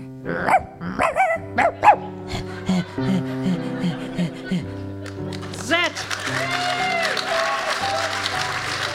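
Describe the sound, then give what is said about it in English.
A dog barks several times in quick, sharp bursts near the start, in a park, over steady background music that continues as a noisy, applause-like wash builds later. “Nice dog.”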